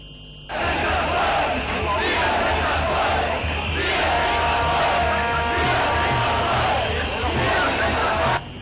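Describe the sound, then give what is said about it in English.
Thousands of protesters against coronavirus restrictions rally outside a parliament in Berlin, Germany, shouting and chanting continuously, voices blending into a loud, dense roar with a few sustained tonal cries rising above the din for several seconds. “Thousands of people rallied outside a parliament in the German capital, Berlin.”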